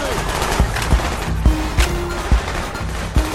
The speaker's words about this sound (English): Except with way more gunfire.